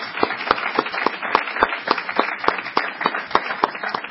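A crowd applauds steadily, many hands clapping in a dense, continuous patter with a few sharper individual claps standing out, holding a fairly even level throughout.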